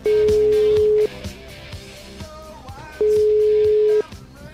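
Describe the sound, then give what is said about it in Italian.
An outgoing phone call to Emilio Fede, placed from a live broadcast, rings: two steady, mid-pitched tones, each about a second long, separated by a two-second pause, over a busy musical background. “Beh, abbiamo provato a fare una cosa incredibile, chiamare Emilio Fede, cioè i Cazzo, che sono degli ammiratori degli interventi di Fede alla Zanzara, hanno provato a chiamare Fede con un numero da qui, dalla diretta.”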